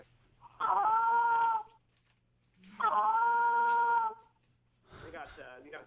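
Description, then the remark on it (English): Two drawn-out, moaning honks blown on a goose call (a Willis call), each lasting about a second with a pause between, then a shorter, rougher burst of notes. Loud and without any talking. “And you might want to give them some like a Willis.”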